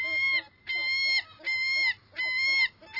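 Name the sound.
gulls calling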